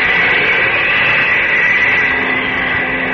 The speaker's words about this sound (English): I think I hear a plane now. Over and out. Yes, that does sound like a plane. Above me and coming this way.